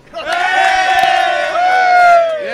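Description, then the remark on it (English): A crowd at a motor race lets out a loud, sustained cheer, voices roaring together in a high, steady yell that holds for a couple of seconds before tapering off. “Crowd really starting to fill out now.”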